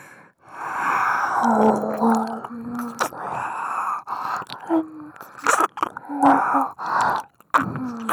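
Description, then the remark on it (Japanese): Heavy, breathy exhalations blown right into the microphone, mixed with soft voiced moans and hums, fairly loud and continuous, breaking into short sharp puffs toward the end. “私の吐息も感じるじゃろ？”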